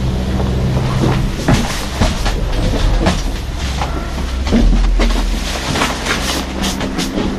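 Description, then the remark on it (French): Chairlift machinery at a small hillside ski area runs with a steady, loud mechanical rumble and low hum, broken by repeated rattling clacks at irregular intervals, much like a rolling train, on a 12-minute climb with an intermediate station. No one speaks. “maintenant on a de la machine qui tourne très bien même quand il y a des conditions de vent, on s'aperçoit que c'est comme chez nous, hein, il n'y a pas de souci.”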